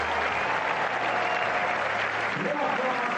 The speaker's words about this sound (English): And Jim begins with applause for Rafa in New York.